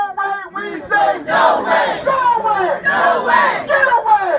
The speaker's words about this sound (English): You can hear a brief excerpt of the sounds at the unofficial town hall meeting on the WGXC newsroom.